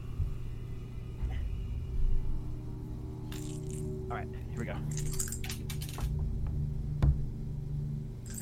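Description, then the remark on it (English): Potion dice for a healing potion in a tabletop game rattle and clatter in a quick burst of sharp clicks against a hard surface, landing on a 4 and a 3, followed by one more crisp knock, over a steady low hum. “Oh, fuck yeah, I get to roll my potion dice.”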